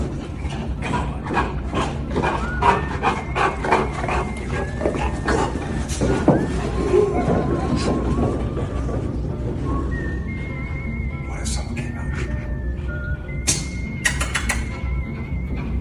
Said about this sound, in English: Dog is chasing after a ball.